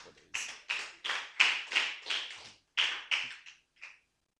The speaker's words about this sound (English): Clap for the AC.